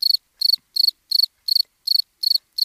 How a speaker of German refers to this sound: Soll ich die Stille nachher rausschneiden? Nee, ich wär so für so Grillengeziepe. Okay, machen wir mal.